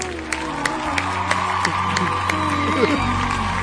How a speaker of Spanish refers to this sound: ¡Fuerte el aplauso! Ahí está.